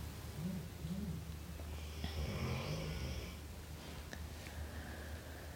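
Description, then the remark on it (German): A dog lying relaxed snores, a low rumbling snort on each breath with raspy, wheezy edges, repeating steadily through the whole stretch with no talking. “Ja, und das, was du im Hintergrund hörst, ist nicht das Knurren vom Wolf, sondern das Schnarchen von unserem Hund, die schon ganz entspannt da liegt, weil sie weiß, da geht keine Gefahr aus.”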